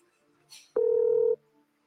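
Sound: telephone call dialing tones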